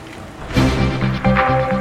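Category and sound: vehicle, car engine running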